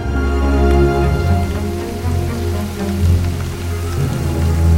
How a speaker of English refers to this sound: Lightning flashes and it begins to rain as Victor wraps Sparky's body in the sack and carries it away, his long thin legs striding down the hill.